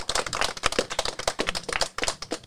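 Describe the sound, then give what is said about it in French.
A group applauds steadily for a few seconds, many hands clapping in a dense, irregular patter, even in loudness throughout, with no voices; applause for the student journalists of a live radio broadcast from the open day of the Institution Saint-Odile. “Et je pense que pour terminer, on peut applaudir tous nos apprentis journalistes qui ont préparé et réalisé cette émission.”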